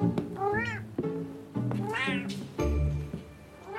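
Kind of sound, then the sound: animal, cat meowing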